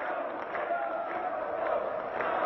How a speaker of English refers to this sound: And I still to this day occasionally show students in my classes the video of Ceausescu's final public speech in which suddenly the crowd which begins to chant in support of demonstrations that were taking place in the city of Timișoara.